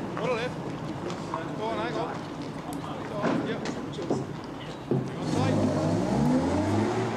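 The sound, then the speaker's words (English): A truck with a white star stenciled on its front rumbles and swells louder as it drives past a man on a road, its pitch shifting, over steady outdoor noise. Indistinct voices murmur early on. “He moves aside so that a truck with a white star stenciled on the front can pass him.”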